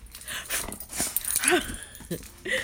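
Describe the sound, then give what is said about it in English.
A happy dog, tail wagging, whimpers and yips excitedly in short, high-pitched bursts with a few barks mixed in, fairly loud, the sounds coming in quick irregular spurts. “Happy doggy! The tail goes waggers!”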